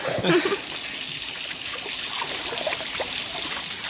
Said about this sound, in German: So, den restlichen Teig kannst du am Wasserhahn abspülen.